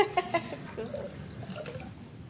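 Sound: water splashing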